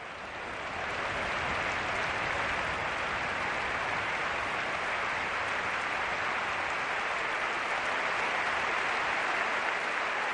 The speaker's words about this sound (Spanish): Este es el sonido del minuto de aplausos en San Mamés para Chechu Rojo.